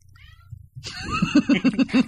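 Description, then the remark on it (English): A cat meows loud in a drawn-out, strained cry that breaks into quick pulsing wavers toward the end, after a brief stretch of faint low hum. “All of a sudden, this show turned into Cat Fancy.”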